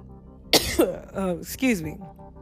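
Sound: cough and throat clearing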